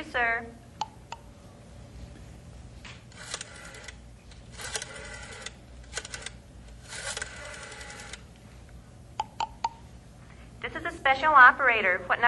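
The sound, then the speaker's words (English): A rotary telephone is dialed: several short bursts of rapid mechanical clicking, separated by pauses, with a few sharp clicks around them. A voice speaks briefly at the start and end. “Operator, what number are you dialing, please?”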